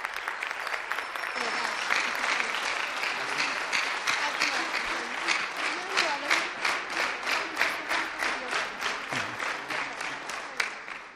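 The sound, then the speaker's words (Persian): A crowd applauds the coaches steadily for several seconds while a microphone is made ready, the dense clapping turning into slower rhythmic, synchronized claps toward the end. Loud, with no one speaking over it. “خواهش می‌کنم کوچا رو تشویق کنید تا میکروفون آماده بشه.”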